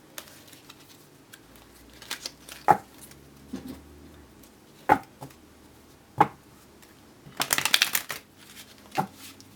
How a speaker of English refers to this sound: So now that I'm done shuffling, I'm placing the cards directly in front of myself, or if I'm reading for somebody else, in front of the querent.